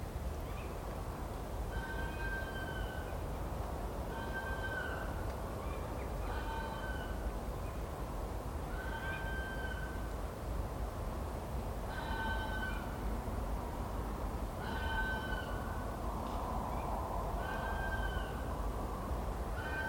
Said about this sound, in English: Urban foxes are doing fairly well in our neighbourhood, and on winter nights, the vixens sometimes announce their visits from the path at the end of the garden.